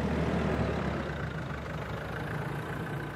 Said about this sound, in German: Der Büffel, ein ausrangierter Bergepanzer der Bundeswehr. Seine Ketten graben sich in den sandigen Boden, als er sich dreht und mit ziemlicher Geschwindigkeit auf einen Waldweg zufährt.